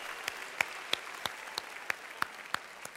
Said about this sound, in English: So if you are like a first timer at Next Level, all the people who've been here before, let's just give it up for all the new people who are here.